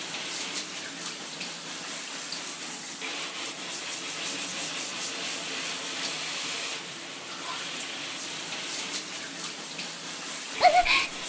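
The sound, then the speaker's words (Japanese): Shower water sprays in a steady hiss, moved around in circles over a person's body. It runs unbroken throughout, with a brief splashy shift near the end as the stream hits something differently. “おちんちんの先っぽから根元に向かって、ほーら、たまたまにもシャワーを当てて、くーる、くーる、動かすの。”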